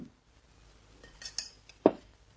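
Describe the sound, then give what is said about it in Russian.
A thrown plate clatters: a few light, bright clinks followed by one sharper crockery clack, fairly quiet and brief, with no voices. “Еще одно слово, и следующая тарелка полетит вам в голову.”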